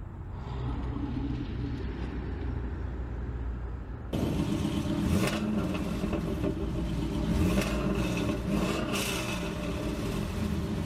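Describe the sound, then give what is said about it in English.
A bandit car's engine rumbles steadily on the road, then grows louder and revs up in a few surging bursts, with a constant low drone underneath and no voices. “Isn't that John in the bandit car?”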